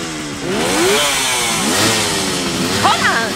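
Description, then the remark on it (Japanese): A motorcycle engine revs loudly in front of a shop in repeated surges, its rough, buzzing roar climbing and dropping in pitch, with a sharper rising whine near the end. “店の前でバリバリバリバリもううるさいよ。”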